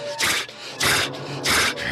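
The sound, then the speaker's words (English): An animal biting a person's leg huffs and breathes heavily, three loud breathy bursts in a steady rhythm about half a second apart, with no talking. “And so I reached down and you can kind of hear him like huffing, like breathing and like that.”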